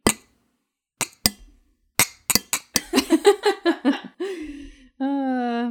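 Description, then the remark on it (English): Several bright glass clinks ring out in an uneven cluster as a toast, followed by a burst of giggling laughter and then a sustained, wavering vocal tone. “And pop some bottles. And a fake little clink.”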